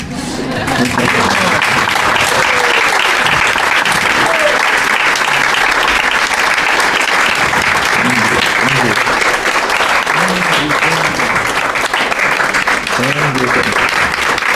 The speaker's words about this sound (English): And let us also applaud our